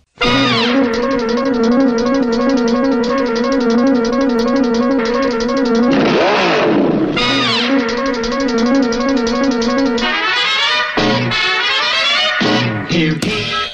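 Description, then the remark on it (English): A loud, brassy classic cartoon theme tune, from the show Speed Racer, plays nonstop with a steady bouncing beat, broken midway by a swooping engine rev that rises and falls before the music surges back. “The theme is classic cartoon theme songs.”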